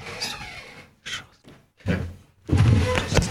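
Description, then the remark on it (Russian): A door is pulled shut: a few brief knocks and shuffles, then a louder solid thunk as it closes, with a lingering rattle afterward. No one speaks. “Я закрою дверь тут.”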